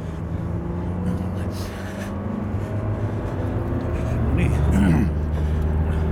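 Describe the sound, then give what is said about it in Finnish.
Steady engine and road rumble of a car driving toward Imatra, a continuous low drone, swelling somewhat louder near the end as if speeding up. “No niin, nyt ajat Imatran suuntaan sitten.”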